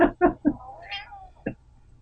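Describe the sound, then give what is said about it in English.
A cat gives one drawn-out, wavering meow, fairly clear, with a few short, sharp sounds just before it and one brief sound after. “See, even your cat knows that that's just ridiculous.”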